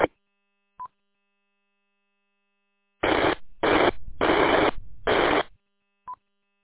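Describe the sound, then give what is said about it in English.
Radio repeater hiss comes through in four rough bursts of static with no voice underneath, set off by a short, clear beep before and another after. “Brought the repeater up, but a little bit of hiss, but no audio.”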